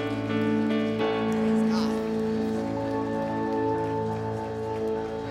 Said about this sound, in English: Go ahead and stand up. Can we give God a hand clap of praise this Sunday morning? Amen.